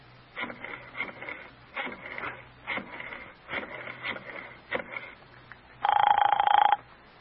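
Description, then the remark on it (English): A telephone being dialed, with bursts of rapid mechanical clicks from the rotary dial, followed by a single loud buzzing ring tone near the end. No one speaks. “All right, give me the phone. Do you know his number?”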